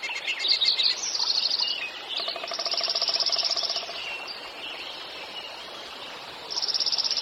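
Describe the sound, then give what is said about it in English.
A spring dawn chorus of male songbirds at early morning light: bright, rapid trills repeat in bursts over a continuous wash of overlapping chirps and tweets, with no talking. “One of the magical gifts of spring is to hear the dawn song.”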